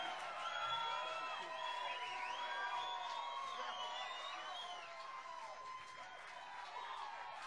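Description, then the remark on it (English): Audience applause and cheering for trombone player, formerly of a band, fill the whole stretch, a steady, loud crowd roar threaded with high, wavering whoops and whistles that rise and fall without a break. “Give a big round of applause to our trombone player, formerly the …, a … production.”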